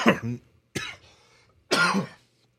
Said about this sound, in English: I apologize for the cough, you guys.